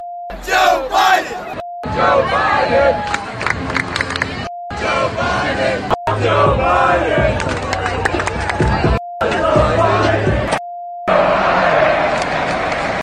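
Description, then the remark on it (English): A large stadium crowd at a college football game chants a new chant loudly in several roaring bursts, each cut off abruptly, with a steady high electronic beep filling the short gaps between them. “If you tuned into any college football games over the weekend, there's a good chance you saw this new chant regardless of what team you were watching.”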